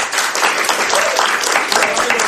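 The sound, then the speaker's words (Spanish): A crowd applauds a teacher with dense, steady clapping that stays loud and even throughout, forming a bright, continuous wash of hand claps with no voices standing out. “Un aplauso para el profesor, ¿no?”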